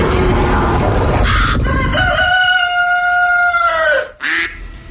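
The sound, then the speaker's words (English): A loud duck call sounds at the end of a brief music jingle: a long, drawn-out nasal note that slides slightly downward, then stops abruptly, followed by a short noisy blip. “Gotta have that duck at the end.”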